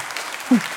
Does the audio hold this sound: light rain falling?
no